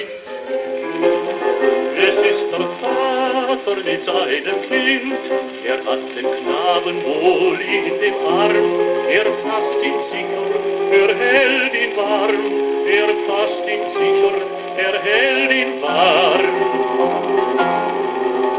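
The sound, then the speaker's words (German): A shellac record plays on a hand-cranked gramophone: Goethe's Erlkönig set as a song by Carl Loewe, with a singer and piano in a thin, band-limited tone under a steady bed of surface crackle and hiss, continuous and fairly loud. “Am Knistern und Rauschen der Aufnahme ist es zu hören. Das Lied wird von einer Schellackplatte abgespielt.”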